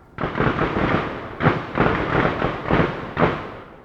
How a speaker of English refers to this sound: Most weekdays, it begins in the morning and lasts through the afternoon. Sometimes it goes past sundown, and occasionally into the weekends. Once the shooting begins, it comes in rapid-fire waves throughout the day.